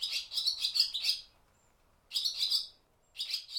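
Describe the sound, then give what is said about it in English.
Barn swallows calling in quick, high-pitched twittering bursts, three clusters of rapid chirps separated by short pauses, with no voices present. “As I dug through my sound library, I stumbled upon these barn swallows.”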